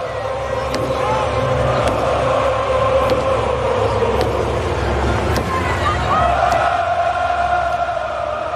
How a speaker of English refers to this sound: Nothing to see here, just 70,000 people doing the tomahawk chop.